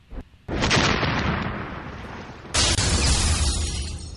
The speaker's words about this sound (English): Okay, they had a fart. They had a fart sound effect in the first 6 seconds.